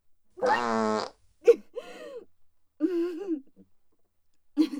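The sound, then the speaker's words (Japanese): A voice imitates fart sounds as part of a fart song: one long, buzzy, loud blat, followed by a few shorter sputtering and groaning vocal bursts separated by brief pauses. “最後はおならの歌ですよ。”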